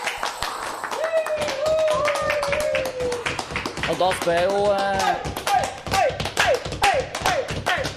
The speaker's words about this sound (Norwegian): Trampeklass.